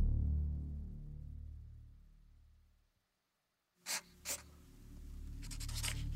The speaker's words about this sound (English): He awoke to the sound of scratching on paper. He looked over. Framed against the moonlight, Kath sat hunched over her sketch pad, her hand moving in short, sure strokes.